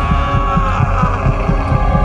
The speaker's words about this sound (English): But for many minutes, his heart beat on with a muffled sound. This, however, didn't vex me.